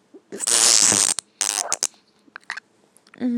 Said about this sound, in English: I'm gonna fart nice and loud. Ready?